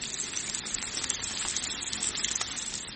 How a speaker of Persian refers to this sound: اونا لک هموگلوبین سویا و مخمر رو با مهندسی ژنتیک دستکاری میکنن و نتیجه‌اش چیزیه که طعم و رنگش مثل گوشته. برگری که با این روش ساخته شده موقع سرخ کردن مثل گوشت واقعی جلز و ولز میکنه.